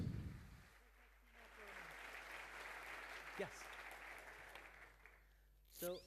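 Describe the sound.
A round of applause: dense, steady clapping from a crowd that swells quickly and holds for several seconds before tapering off, with a brief voice at the start and a sharp sound at the end.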